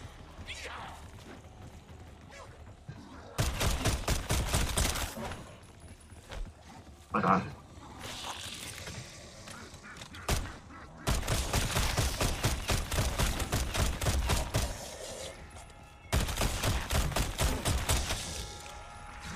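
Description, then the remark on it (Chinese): Video game gunfire using only a pistol, to level up the pistol: several long, rapid volleys of sharp, loud cracks fired in quick succession, separated by brief lulls with quieter background sound. “Max Armor 都打得你辛苦，因為用手槍嘅嘛，齋用手槍，因為要升手槍啊。”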